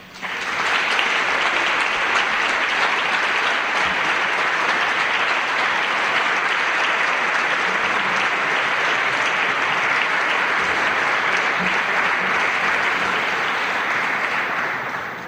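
Sustained applause from an audience welcoming the Orquesta de Cámara San Benito, a chamber orchestra, a dense steady wash of clapping that holds at an even, loud level for about fifteen seconds before easing slightly at the end.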